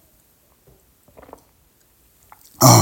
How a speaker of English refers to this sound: Okay, I'm losing my voice. Let me get a little sip of tea.